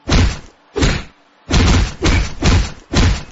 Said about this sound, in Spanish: ¡Qué porrazo me ha dado!